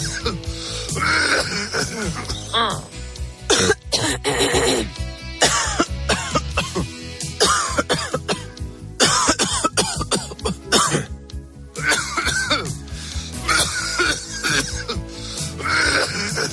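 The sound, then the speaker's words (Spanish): Someone coughs repeatedly with harsh, chesty bursts and throat clearing, loud, in irregular fits over about sixteen seconds with only brief pauses and no talking. “Y claro, no paras de toser.”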